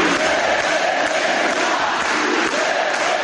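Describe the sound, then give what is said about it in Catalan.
A large crowd of supporters welcoming their candidate after Basque elections shouts pro-independence chants together in a dense, continuous roar of voices, steady and loud throughout with no pauses. “Tot i això, els simpatitzants de l'esquerra Versalles rebien el seu candidat, ara sí, amb crits d'independència.”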